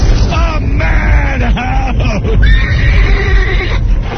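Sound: horse neighing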